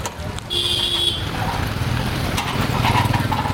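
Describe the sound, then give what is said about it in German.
Dense rush-hour street traffic in Dharamsala, with too many cars squeezing through narrow streets, rumbles with engines and motorbikes while a car horn blares in a steady tone, with more honks and a faint murmur of voices in the mix. “Rush Hour mit Hubkonzert, wenn sich mal wieder viel zu viele Autos durch zu enge Straßen schieben.”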